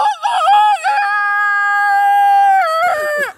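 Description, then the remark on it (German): A person loudly imitates a rooster's crow, one long sustained call with warbling, clucky wobbles at the start and a falling, broken ending, with no other sounds around it. “Ich habe gehört, du kannst extrem gut Hühner nachmachen.”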